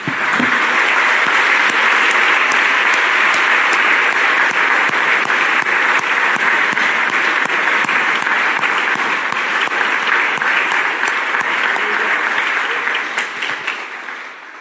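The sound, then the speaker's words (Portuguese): A church audience breaks into sustained applause for the Lord, a dense, steady wash of many hands clapping for about fourteen seconds, loud throughout before tapering off slightly at the end, with no voices heard. “Acho que nós devíamos aplaudir o Senhor que nos deu sinais.”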